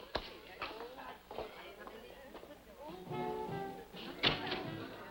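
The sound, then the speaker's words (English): Several dull knocks on a door land at irregular intervals, with a sharper rap near the end and muffled voices in the background. “Well, she's probably here now. Well, you answer the door”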